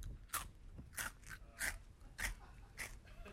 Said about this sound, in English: Now I'm going to keep these Flax Fortune coins right here and just munch on them throughout the show.